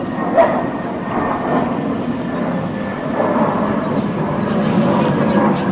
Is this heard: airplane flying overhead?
yes